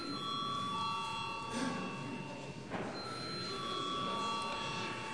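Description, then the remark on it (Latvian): A parliament voting bell, called before deputies vote on referring a bill to the budget and finance committee, rings as a steady, sustained electronic tone with several bright pitched layers, holding for about five seconds over a low murmur of voices and shuffling. “Lūdzu zvanu.”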